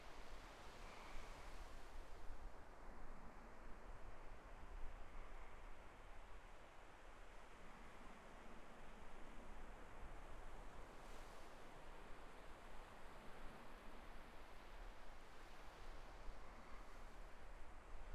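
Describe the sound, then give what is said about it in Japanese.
Steady ocean surf washes in continuously, a broad, rushing roar of waves at an even level with no voices, just the constant hiss and wash of water. “あなたも波の音でリラックスしてる？”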